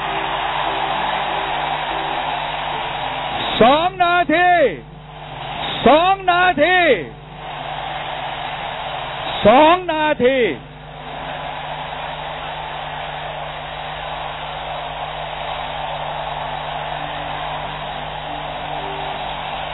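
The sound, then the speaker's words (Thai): A large crowd at a People's Alliance gathering stands up and roars in a loud, steady wash of noise to show agreement that the alliance should form a political party, with three short, wavering tonal blasts rising above it in the first half. “ต่อไปจะถามว่าถ้าใครเห็นด้วยว่าพันธมิตรจะต้องตั้งพรรคการเมืองยืนขึ้นและโห่ดัง”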